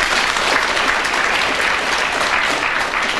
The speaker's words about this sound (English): And I think I'm going to call upon our delightful-looking studio audience to be the judge. Now, do you think I should award a point to Sheila Hancock for that? Clap if you think so.